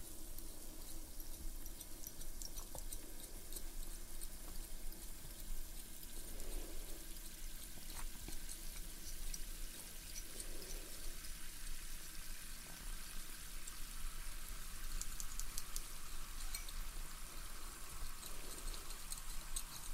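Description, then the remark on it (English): A steady hiss of a dental water jet gently blowing cold water onto a patient's teeth to polish them runs unbroken for the whole stretch, with a faint low hum underneath and no voices. “So we're just starting the water now.”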